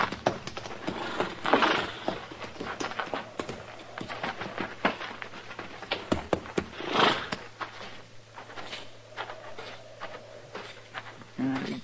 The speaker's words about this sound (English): Come on. Put our horses in the barn here, Chester.